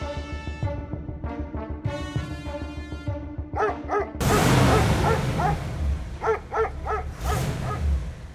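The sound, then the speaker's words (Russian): Several dogs bark repeatedly in short, yapping bursts over a steady low rumble, the barking growing louder and more insistent partway through as a hiss of noise rises underneath. “Залаяли собаки.”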